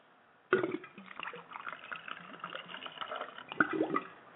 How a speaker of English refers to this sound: That's the ice in the glass. And this is the crown pouring in the glass.